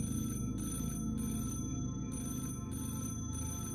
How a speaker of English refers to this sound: I stared at the phone as it rang. It stopped after 8 rings. I counted.